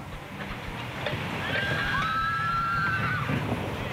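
A horse neighs once, a drawn-out, high whinny lasting nearly two seconds over a steady rumble of outdoor background noise, clear.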